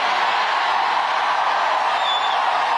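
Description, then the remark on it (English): A large, rowdy rally crowd in Kalamazoo roars and cheers in a dense, continuous, loud wash of noise, with a brief high whistle or whoop cutting through near the end. “A rowdy crowd in Kalamazoo.”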